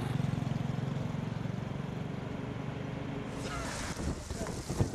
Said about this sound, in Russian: Сильные ветры, несущие песок с опустыненных территорий, обрушились на провинцию Ганьсу.